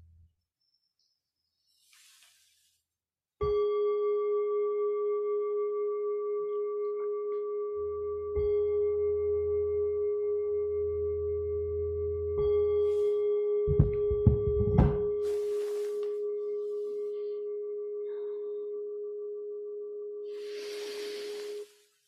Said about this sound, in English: When you hear the sound of the bell beginning to come back,